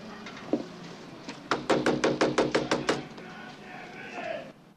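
A rapid series of about nine sharp, evenly spaced knocks on the door of a clapboard house near a noisy harbor area, preceded by a single earlier knock, over a steady wash of background noise.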